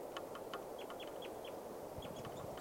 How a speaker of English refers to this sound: Bird calling right here.